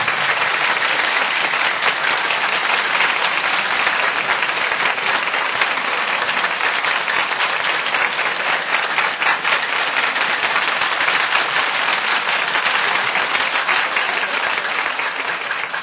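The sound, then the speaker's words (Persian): A large crowd claps together in a steady, even rhythm, the dense, crisp hand claps continuing at a constant loud level for the whole stretch without any voices. “ای باد کشان سبو لبا و لب بزنید، می از می پرفروغ مذهب بزنید، ای اهل ولا آمده از ره باغر ناز قدمش کف مرتب بزن.”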